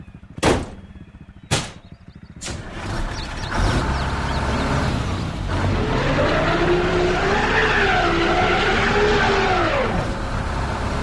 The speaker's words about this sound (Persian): یک روب نگذشته بود که صدای موتور و تراکتوری که از طرف ده میامد مطمئنمان کرد که سیاوش کار خودش را کرده و از گل و شل خلاص میشویم.